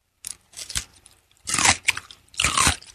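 Crunchy bites into a pickle, close to the mic: a few wet snapping crunches followed by two loud, drawn-out bursts of chewing with brief pauses between, no talking.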